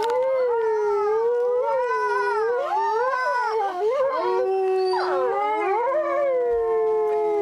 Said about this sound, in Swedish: Är det ylandet? Det där är vargyl alltså.